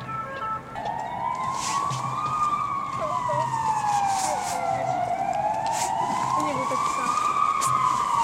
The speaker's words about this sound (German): Nicht wegen der Feuerwehr oder Polizei im Hintergrund. Ich glaube, diesen Geräuschen kann ich nicht unbedingt entgehen.